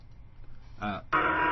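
A gong sound effect rings out loudly after a brief tonal burst, its bright, buzzy metallic tone sustaining to the end over a low, steady hum.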